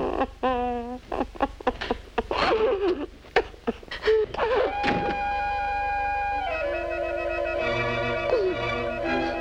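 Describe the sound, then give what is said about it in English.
A front door bangs shut with a solid thunk as Mr. Abernathy closes it on his way out, after a flurry of knocks and clatter, then sustained, tonal orchestral music swells and holds. “Abernathy can't wait to get out of there, and as soon as he closes the front door, Mabel drops her act.”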